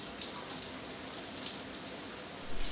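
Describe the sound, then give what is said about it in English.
Shower water runs in a steady, hissing spray, a dense patter of droplets that holds constant throughout and swells slightly at the very end, with no voices. “At the weekend, I take a shower.”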